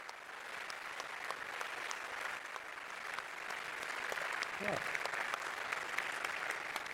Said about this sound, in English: Thank you so much for this great and very relevant, great talk, very relevant practice too. So let's have some more applause.